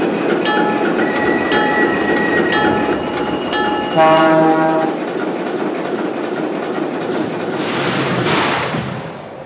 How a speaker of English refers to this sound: Now running from New York on track number 2, train number 26, Emergence Limited.